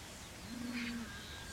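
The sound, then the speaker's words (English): A single soft, low bird coo sounds once against faint outdoor background hiss on a morning, with a brief higher chirp layered in. No one speaks. “Listen to those birds.”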